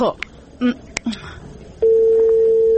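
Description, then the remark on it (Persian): A few short electronic keypad beeps from a mobile phone as a number is dialed to make a call, followed by a steady, continuous tone that holds unbroken until the end, clear. “خی زنگ بزن اشکی خوب نیستم. خو باش که موبایل ما در کجا مانده. اینه پیدایش کدم. شماره شیر زمان چی شد؟”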